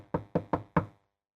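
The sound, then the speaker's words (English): Four firm knocks on a door in quick, slightly uneven succession, each a hollow wooden thud that fades fast, followed by silence. “I've knocked on their door before.”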